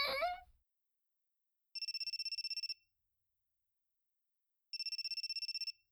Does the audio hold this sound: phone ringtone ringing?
yes